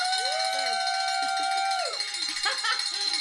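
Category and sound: signal or alarm, hand bell being rung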